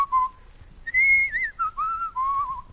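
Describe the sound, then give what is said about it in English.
A man whistles a short, lilting tune alone, the clear pure notes sliding up and down in a few bright phrases with brief pauses between them, fairly loud. “You like the way I pucker up and whistle?”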